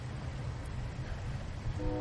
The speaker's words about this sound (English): But we're also hearing a distant train.